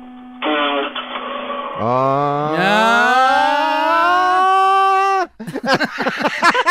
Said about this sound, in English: It's the solenoidal part of the starter that as the solenoid is engaging is making that noise. And then as soon as it does that, the starter begins to turn and cranks the engine over.